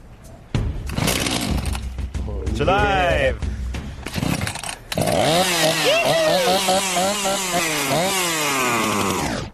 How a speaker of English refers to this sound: Hey, you got another chainsaw. Maybe one out of three will work and we're done, you one know? One out of three is going to start.